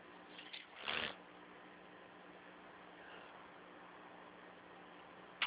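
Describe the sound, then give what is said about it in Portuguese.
A brief burst of rustling and rummaging as someone picks up a pen to write down a service code during a phone call, followed by steady faint line hiss and a small knock at the very end. “Quero sim, deixa eu pegar aqui a caneta.”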